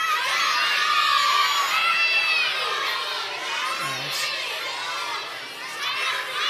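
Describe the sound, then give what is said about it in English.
An audience shouting their favorite burger joints all at once on a count of three, a loud, overlapping roar of many people yelling different words simultaneously, sustained and chaotic without any single voice standing out. “I need to poll the audience and I want to hear you guys on the count of three yell this out. Tell me your favorite burger joint.”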